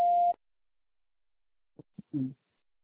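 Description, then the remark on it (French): A single steady electronic beep, pitched in the mid range and clipped short, from a taxi-booking telephone voice menu, signaling the caller to state the pickup address; then a pause and a few faint, brief low thumps and a muffled bit of sound. “Prononcez distinctement après le bip sonore votre adresse de prise en charge en précisant la ville.”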